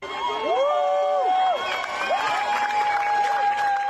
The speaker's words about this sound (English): Now, the mayor of Paris, Anne Hidalgo, has taken decisive action, donning a swimsuit and taking the plunge, quite literally, in front of cheering spectators.